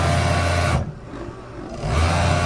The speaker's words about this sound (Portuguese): Uma confecção de roupas que funciona a todo vapor em Taguatinga, a 25 quilômetros de Brasília. A máquina de costura não para um minuto.